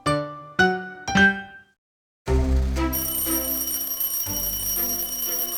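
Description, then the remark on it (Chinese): An alarm clock goes off: three bright chime-like tones, a brief pause, then a loud, continuous ringing with a shrill metallic edge that carries on without letting up. The clock also vibrates while it rings. “那就赶快起床，就把闹钟关掉就好啦。”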